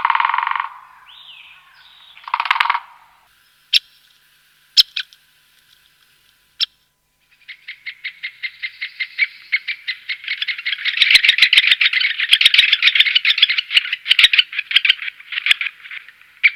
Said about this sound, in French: Voilà, donc on a entendu d'abord le tambourinage, puis les cris. Donc le pic épêche est une espèce forestière qu'on appelle ubiquiste, c'est-à-dire qu'on la trouve un peu partout dans toutes les forêts de feuillus.